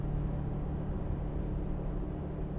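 inside a moving bus

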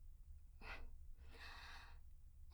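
heavy panting breaths

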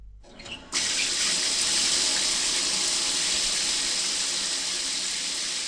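shower water running

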